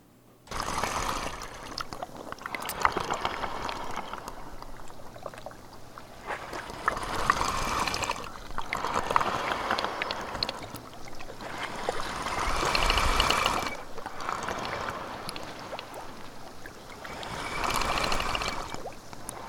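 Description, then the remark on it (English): On a rough day, waves force air up through small holes in ice, making a hoarse, breathing rush that swells and fades roughly every five seconds over a steady watery wash. No one speaks. “the waves were like pushing against it and forcing air up through these small holes in the ice. And so it created this breathing sound.”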